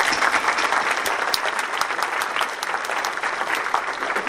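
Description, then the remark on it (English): An audience claps steadily, a dense, sustained wash of overlapping hand claps, holding an even loudness for several seconds with no voices standing out. “Could you all please help me in giving these people a round of applause?”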